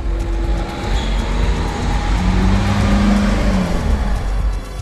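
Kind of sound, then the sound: vehicle, car passing by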